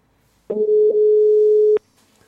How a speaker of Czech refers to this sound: Tak, slyšíte sami, že vyzvání telefon? Volám.